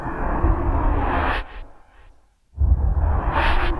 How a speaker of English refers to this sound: Now these are I called opium whooshes, which are just used for transitions to get in and out of other sounds.